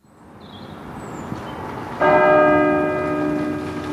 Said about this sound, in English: On a serene spring evening, a chapel bell rings out across the grounds of an Oxford college, a picture of peace and calm.